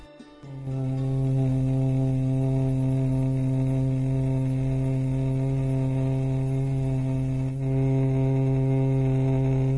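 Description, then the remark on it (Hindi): After a deep breath, a voice hums steadily through the nose while exhaling, imitating the buzz of a female bumblebee, fingers resting lightly above the eyebrows, beside the nose and above the lips: one long, low, unbroken drone that holds its pitch for nearly ten seconds, briefly dipping before swelling again. “गहरी श्वास को भीतर भरिए और नाक से ही श्वास को छोड़ते हुए मादा भ्रमर के गुंजन के समान ध्वनि निकालनी है।”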